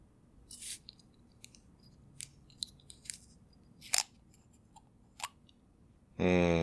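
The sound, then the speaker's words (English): A jar of Rochetta Brio Blue being cracked open: a scattered run of sharp, crisp clicks and crackles at an irregular pace, fairly quiet, before a voice starts speaking at the very end. “Not a fun open pretty sound.”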